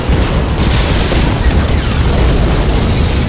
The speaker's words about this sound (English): The ground shook beneath him. He tried to look up but could not, forced down by concussive force of explosion after explosion as the missiles reached the targets clustered around him, followed by secondary explosions